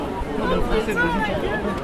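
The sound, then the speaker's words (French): Dense crowd chatter fills the scene, many overlapping voices merging into a steady, loud babble with no single speaker standing out. “Alors là, on peut dire à nos auditeurs qu'on est dans une foule très compacte.”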